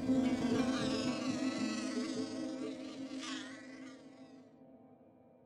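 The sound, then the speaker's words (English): A mosquito's thin, steady whine, dense with harmonics, swelling slightly and then slowly fading over several seconds, as a sluggish mosquito held in a test tube to James Carroll's arm flutters onto it and slips its proboscis through his skin. No voices present. “He held the test tube to his arm and waited patiently until, at last, the sluggish mosquito fluttered onto his arm and slipped its proboscis through his skin.”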